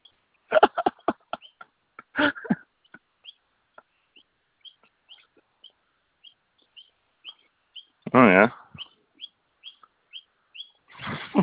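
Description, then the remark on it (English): A small bird chirps repeatedly in short, high, evenly spaced peeps, broken by a few louder, harsher squawking bursts, with no voices. “I don't know, like, I don't, do any vets just accept random birds?”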